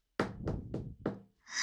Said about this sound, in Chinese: 此时敲门的声音响起了